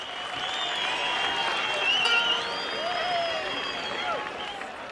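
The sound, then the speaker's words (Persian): Sustained applause from a sizable audience at a performance of local music, dense and steady, with an excited crowd murmur and scattered voices swelling briefly in the middle before settling back. “خب این همهمه، این هیجان هست به افتخار خودتون با این روحیه هنریتون.”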